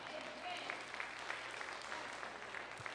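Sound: audience applauding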